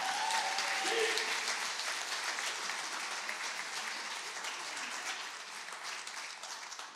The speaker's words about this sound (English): Do you want to clap for the Lord?